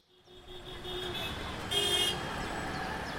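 Busy city street traffic of smoke-emitting cars rumbles steadily while car horns honk, with a louder, brighter blast standing out midway before the horns settle back into the constant road noise.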